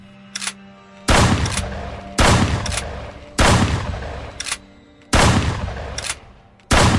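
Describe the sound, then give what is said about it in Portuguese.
A series of loud gunshots rings out as Fabiano fires at birds from the bank of a river, about six blasts spaced roughly a second apart, each with a sharp crack followed by a rumbling echo, with no one speaking. “Por isso, tornou a sentar na ribanceira do rio e dessa vez deu muitos tiros.”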